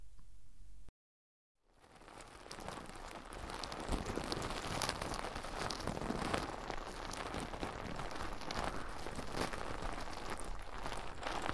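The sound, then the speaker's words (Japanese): Dense, crackling foam soap lather is rubbed and squished onto a person's ear, starting with one ear. It makes a continuous fizzy, bubbly crinkle that follows a brief silence and then holds steady and fairly loud. No one speaks. “まずはこの、泡で出てくるソープをたっぷり手のひらに出して、では、手に出したこのもちもちの泡を、お耳に塗っていきますね。”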